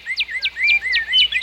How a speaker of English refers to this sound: How does the bird sing? This is how a bird sings.